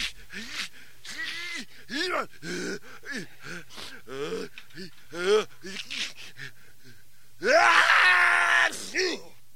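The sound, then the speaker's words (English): A door being opened groans and squeals through a long series of wavering creaks, pitch sliding up and down, before one louder, harsher drawn-out creak near the end. “Even doors would make the same joke twice. Listen to what I'm talking about. Here, watch. I'm going to open up the door.”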